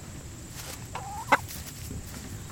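A hen that has got out gives a soft, drawn-out call followed by one short, sharp cluck over a steady background hum, with no voices.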